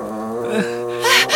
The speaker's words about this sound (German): Da! Hörst du das? Dieses Geräusch! Das Ungeheuer knurrt uns an! Es will uns angreifen!